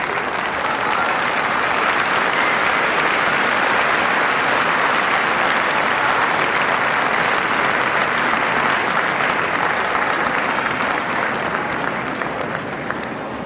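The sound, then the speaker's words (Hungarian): A sustained storm of applause from a large crowd after a papal blessing, marking the Holy Father's birthday, dense and steady clapping at a loud, even level for the whole stretch, with no one speaking over it. “Kedves hallgatóink, a mai napon a tapsvihar mellett azért kihallatszott még egy hangkiáltás, Happy Birthday.”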